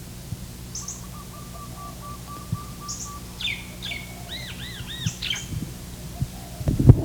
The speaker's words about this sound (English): There's also barred doves.